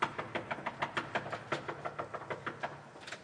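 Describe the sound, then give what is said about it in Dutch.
A rapid, steady run of about fifteen sharp knocks on a door, evenly spaced, continuing for a few seconds with no talking. “Nee, en dan deze deur nou weer dicht. En dan ga je kloppen.”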